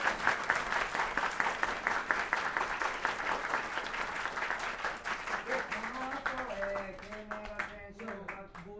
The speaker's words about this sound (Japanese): ではワグネルの皆さんには改めて大きな拍手をお願いします。